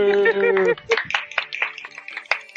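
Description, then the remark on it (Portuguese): A drawn-out shout opens, then everyone gives a round of applause on request: irregular, sharp claps at a moderate loudness, scattered rather than a dense roar. “Ei, todo mundo, uma salva de palmas.”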